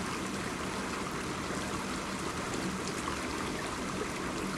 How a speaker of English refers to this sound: I invite you to bring all your awareness to your sensations of hearing. Hearing the sounds of the flowing waters of the creek.